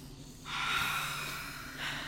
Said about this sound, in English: Do we need to meditate and center ourselves after that? I'm like, whoo, take three deep breaths.